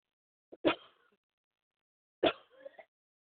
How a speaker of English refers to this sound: Excuse me, I need to cough some more.